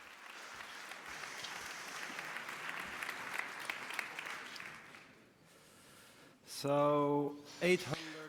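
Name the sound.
audience applause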